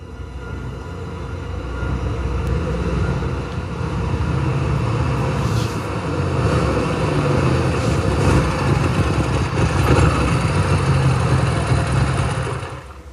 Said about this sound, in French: c'est Fingo qui arrive là, c'est bien sa moto, c'est bien lui